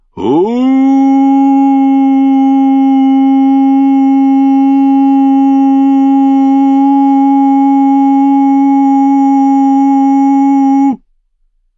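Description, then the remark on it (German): A horn sounds again over a camp, louder and longer than before: one long, steady, low note for about ten seconds, loud and unwavering with a rich buzzing tone, then cuts off abruptly into silence. “Doch sobald dies geschehen war, ertönte es erneut, lauter jetzt und länger.”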